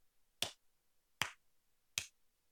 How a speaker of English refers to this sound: Slow clap for America, man. Slow clap for America.